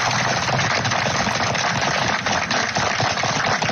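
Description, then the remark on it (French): A crowd of Britons in the United Kingdom claps steadily in tribute to Captain Tom, a dense, even wash of many hands with no pauses and no voices rising above it, holding at the same loudness throughout. “Les Britanniques inconfinés qui applaudissent en hommage à Captain Tom.”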